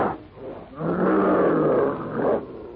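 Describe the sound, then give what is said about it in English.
A ferocious prehistoric ape monster roars out its challenge: a loud, sustained monstrous roar swells up after a brief low snarl, holding for about two seconds with a rough, guttural texture before tapering off. “Swinging forward clumsily but swiftly, the hideous features contorted with black rage, the brute roars out his challenge.”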